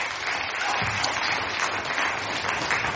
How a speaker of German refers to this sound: Ein Applaus für euch und für mich und fürs ganze Team. Herzlich willkommen zum Blue Moon.